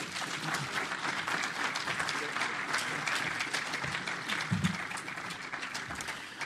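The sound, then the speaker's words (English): Sustained audience applause for speaker Michael Parenti, a dense, steady patter of many hands clapping at once, holding an even loudness for several seconds without fading or building. “And please give a big round of applause to Michael Parenti.”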